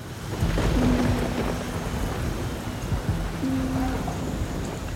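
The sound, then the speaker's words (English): Steady rain pours down with a dense hiss on an October evening in 1849 in Baltimore, joined by low rumbling thunder that rolls beneath it throughout. No voices, just a continuous stormy wash. “On a rainy October evening in 1849, a young newspaperman discovered Edgar Allan Poe.”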